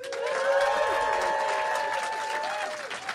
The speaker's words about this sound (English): So you're going to have to express with applause and whooping, smarter or funnier. So first we'll do smarter, then we'll do funnier.